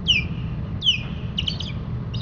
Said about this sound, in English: This week, an icon of the Long Island Sound region and returning here very soon, it's the osprey.